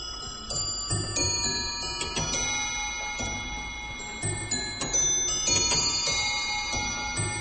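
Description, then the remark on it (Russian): Several clocks in a museum strike at once, their bright metallic chimes overlapping and ringing on while a steady ticking continues underneath, fairly loud, with no voices. “Там зала, там и музея, каждые 5 минут бьют часы.”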